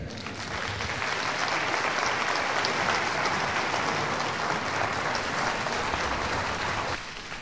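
An audience applauds in a steady, dense wash of clapping that holds at an even level for about seven seconds, then eases off slightly at the end, with no voices heard.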